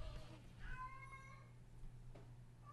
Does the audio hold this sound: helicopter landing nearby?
no